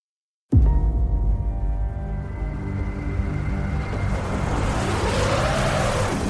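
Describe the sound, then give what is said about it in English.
A heavy storm on a snowy mountain, heard from a car driving up the mountain, rumbles in suddenly and stays loud and constant, a deep roaring wash of wind and rain over a low engine-like drone, with no voices. “Hell of a storm.”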